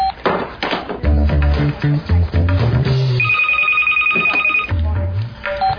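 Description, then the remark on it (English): A telephone rings with a steady, high electronic tone lasting over a second, preceded by a busy stretch of choppy, low thudding sounds and followed by more low rumbling. “pick up the phone!”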